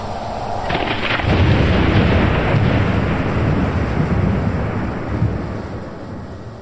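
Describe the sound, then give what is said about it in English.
A heavy, rumbling thunderclap rolls out over a roaring wind during a storm at sea, the low boom swelling quickly and sustaining for several seconds before slowly fading, with rushing stormy noise throughout and no voices. “Then, as if the storm had merely been waiting for me to wake so I could better witness its fury, it struck.”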